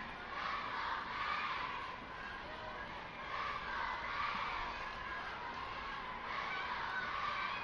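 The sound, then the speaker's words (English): A steady roar of children cheering and shouting in the ballpark stands at a St. Lucie Mets baseball game against the Tarpons, loud and continuous throughout, with overlapping high-pitched voices rising and falling in gentle waves. “Kids still cheering loud down there.”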